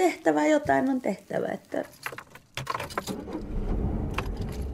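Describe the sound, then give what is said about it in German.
A voice speaks briefly, then gives way to the steady low rumble of a car driving, heard from inside the cabin with dogs in the back seat, a few light clinks and rattles over the droning engine; the car is driving 10 kilometres to Skatjavara for a reindeer separation. “Im Auto sitzen hinten die Hunde.”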